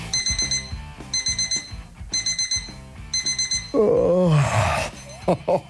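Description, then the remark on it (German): An alarm clock beeps in rapid bursts of four bright, high tones, repeating steadily for several seconds before a person lets out a drawn-out, sleepy groan. “Auch in ganz Deutschland wird diese Dösel-Taste, sprich Snooze-Taste, immer beliebter.”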